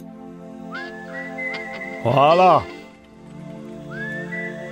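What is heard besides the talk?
person whistling a melody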